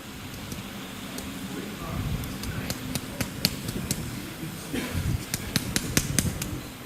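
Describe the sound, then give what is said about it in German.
A squeeze bottle of garlic sauce sputters out sauce in a series of irregular, sharp clicks and wet spurts, over a low rumbling background with faint voices. “Sie spritzt schon mal besser.”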